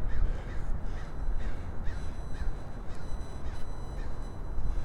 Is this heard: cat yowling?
no